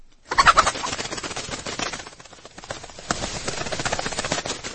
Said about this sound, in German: Am nächsten Morgen ging der Holzfäller in den Hühnerstall und er ging sofort zu dem Hahn und zu der Henne.